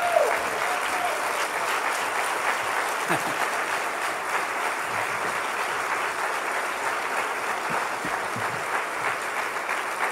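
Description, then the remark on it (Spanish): Sustained applause for the Lord from a large standing audience, a dense steady roar of clapping that holds at an even, loud level for the full ten seconds, with faint voices mixed in. “Pero denle otro aplauso al Señor, pero así bien fuerte.”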